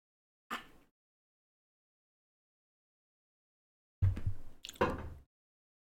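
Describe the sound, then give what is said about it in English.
A short wet smack, then several seconds of silence before two quick slurping gulps of a drink, fairly loud, with no talking. “That being said, I'll take a sip here, and then we'll move on to our running backs for this week.”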